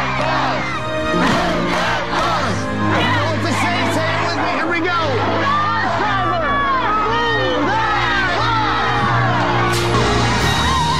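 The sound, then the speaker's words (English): A large crowd roars and cheers continuously, many voices yelling and whooping over one another in a loud, sustained swell with no pauses. “The crowd was really, they're going to be into it in the future.”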